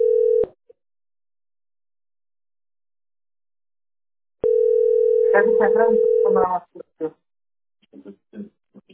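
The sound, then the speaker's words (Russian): A steady, low telephone ringing tone on a call to the company Teploenergosbyt SPB sounds twice, unanswered: a short burst, then a longer one of about two seconds. A voice begins talking over the second tone and keeps speaking after it stops. “Ну вот он стоит и ждет, а телефон у вас не отвечает.”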